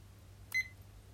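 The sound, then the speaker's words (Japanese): A single short electronic timer beep as the timer is started, high-pitched and clear, sounding once with a slight click at the start, against a quiet background hum with no talking. “今タイマーをスタートさせたので、指を触っていきます。”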